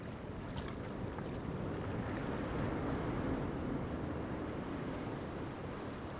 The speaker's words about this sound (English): You can hear the sound of the waves in the distance as they crash onto the rocks and fall back again into the swell of the ocean.